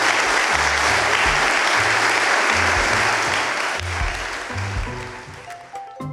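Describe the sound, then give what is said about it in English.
A crowd applauds Caroline Lucas steadily, a dense, loud wash of clapping that holds for several seconds and then gradually thins and fades, with a low musical tone sounding underneath. “Let's give Caroline a round of applause.”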